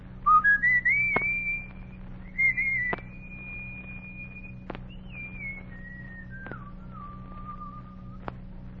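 A boy whistles a slow, simple tune alone, a tune calling his gang together on a hot summer evening on Logan Street in Washington, D.C.: rising opening notes, then long held tones that slide gradually downward, over a low steady hum with faint clicks at regular intervals.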